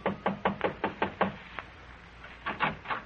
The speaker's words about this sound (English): An hour after phoning her, you drive to a modest little apartment building on Fountain Avenue near Coenga. Curious, but still cautious, you knock lightly on the door.